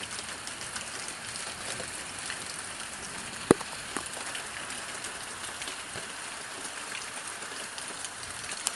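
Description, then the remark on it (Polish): Steady heavy rain, a downpour, falls outside a window facing a garden: a dense continuous hiss with scattered louder drips and one sharp tap near the middle; no voices. “Tu już bardziej słychać, jak deszcz leje.”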